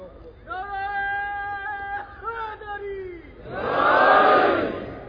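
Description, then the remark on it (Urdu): A single voice calls out a long, drawn-out religious slogan, the Naara-e-Haideri, in a sustained, rising and falling chant, led by young people, then a large crowd answers with a loud, roaring collective shout that swells and fades. “بہت بہتر کرتے ہیں یہ نوجوان جو ایسی باتوں پہ نعرے ہینری لگواتے ہیں، ورنہ ہمارے ہاں رسم ایسی باتوں پہ نعرے ہینری لگوانے کا کم ہے.”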